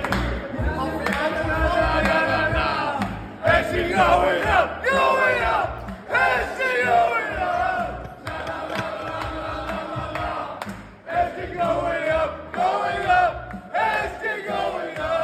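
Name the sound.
crowd cheering in celebration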